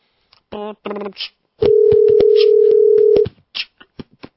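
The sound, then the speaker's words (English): A Skype call ringing tone sounds as a loud, steady electronic tone lasting about a second and a half, with short bursts of voice just before and after it, as someone places a Skype call to a friend. “Phone is ringing.”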